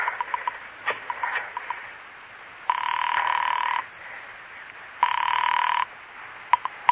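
A run of quick mechanical clicks as a telephone is dialed, followed by two long bursts of a telephone ringing, clear, with no one talking.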